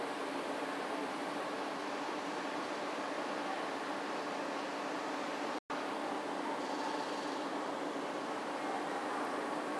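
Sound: train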